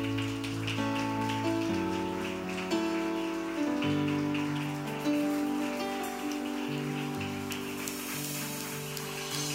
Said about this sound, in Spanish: Esta ofrenda de palmas es para ti, Señor y Rey. Toma tu lugar en esta casa, Señor. Vamos, un instante más, vamos. Estamos aplaudiendo al que vive para siempre, al Señor Dios Todopoderoso, al Rey y Señor,